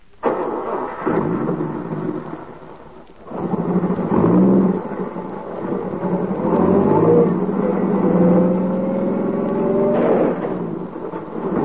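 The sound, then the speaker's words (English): A car engine revs loudly as the car backs up on a road, its pitch climbing and surging in a couple of long pushes over a heavy low rumble, with no voices present. “Back up over him. You've got to.”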